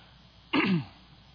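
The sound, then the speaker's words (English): A single sharp sneeze bursts out suddenly, lasting only a moment before quiet returns, with no talking around it. “Bless you.”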